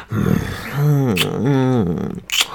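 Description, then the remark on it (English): A man growls: a rough, gravelly rumble rolls into two long throaty swells that rise and fall, ending with a sharp breathy exhale. “Yeah, you like when I growl on it?”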